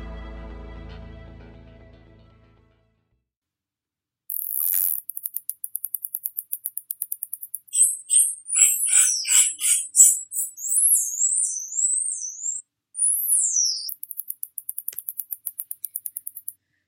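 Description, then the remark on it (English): Dolphin clicks rattle in rapid, buzzing trains, joined midway by a run of high, squeaky whistles that swoop up and down before the clicking resumes; no voices, clear. “Today, we're taking a look, and a listen, at dolphins.”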